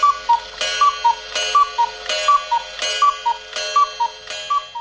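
Cuckoo clocks at Cuckoo Land, a cuckoo clock museum with 750 clocks in Tabley, Cheshire, northwest England, chirp their two-note calls on the hour, over and over in a steady, overlapping rhythm. Each call is set against sharp mechanical ticks. The sound is loud, and no one speaks.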